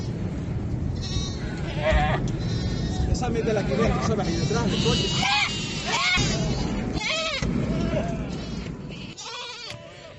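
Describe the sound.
Goats and sheep trapped by advancing lava flows bleat repeatedly during a rescue by Guardia Civil agents days after the Cumbre Vieja eruption, their wavering cries rising over a steady rumble while several people call out and talk among them.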